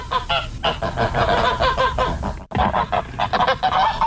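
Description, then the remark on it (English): A loud, dense chorus of geese honking, many overlapping calls in rapid irregular bursts with a brief break midway, no voices present. “2 out of 3 geese.”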